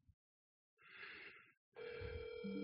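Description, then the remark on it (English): A telephone rings twice as a call is placed, the first burst short and buzzy, the second a steady electronic tone, with the thin, slightly distorted quality of a phone line. No one speaks. “I guess I gotta call him.”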